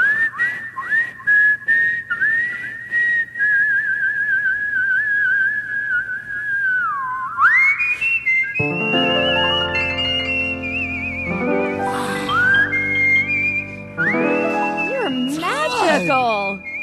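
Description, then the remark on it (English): A person whistles a tune loudly, with sustained notes and sliding pitch bends; about halfway through, fuller voice-like tones join underneath the whistled melody. “People don't realize you're really whistling.”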